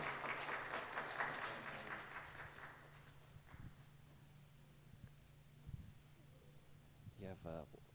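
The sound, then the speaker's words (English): An audience gives the moms a warm round of applause, clapping in a dense, steady wash that fades away after a few seconds, leaving quiet background noise before a voice briefly speaks at the end. “So let's give our moms a warm round of applause of thank you.”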